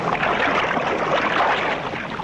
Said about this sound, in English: Above, the boats are brought alongside.